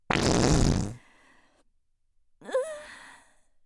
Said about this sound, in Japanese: ケツ穴グッパーって開いておならぶっこくの最高。ねえ、どうだった？おばさんね、こんなに大きくて汚いおならこくの大好き。